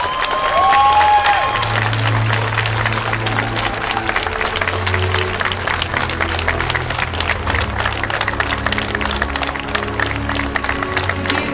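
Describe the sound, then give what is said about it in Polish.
Sustained applause from a large audience at the Tarnów Film Award as the Grand Prix goes to director Wiesław Saniewski for the film Bezmiar Sprawiedliwości: a dense, steady clatter of many hands clapping, with a few brief tonal sounds early on and no speech. “Brawa!”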